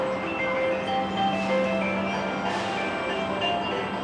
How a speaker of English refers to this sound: Down here on the ground, our shuttle rolled past little four-wheeled vehicles that moved on their own, carrying cargo while playing music like ice cream trucks.